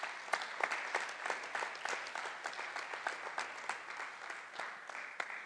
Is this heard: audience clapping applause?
yes